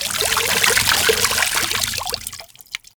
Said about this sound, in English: So that's 3 blasts of water so far. The water's getting pretty deep.